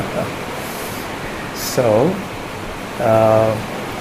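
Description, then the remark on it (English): Steady, dense hiss of heavy rain with thunder outside fills the whole recording, loud and continuous, with two short voiced sounds rising briefly above it near the end. “I'm hardly able to hear myself because the sound of the thunder and the rain is so strong outside.”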